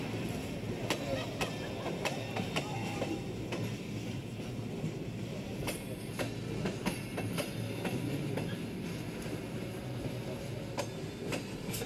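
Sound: train rolling on rails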